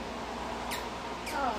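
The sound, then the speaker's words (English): Two short, high-pitched squeaks made with an ear, spaced about half a second apart, each a quick downward chirp over a steady low background hiss. “I've never met a person that can squeak their ear yet, because I can squeak my ear.”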